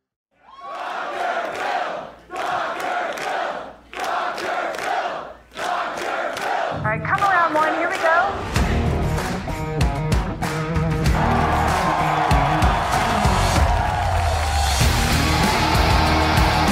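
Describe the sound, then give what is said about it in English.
A comedy club crowd at the Comedy Store cheers, starting with several rhythmic bursts of shouting before swelling into a loud, sustained roar of whoops, applause and yelling. “Comedy Store, how we feel? Make some fucking noise.”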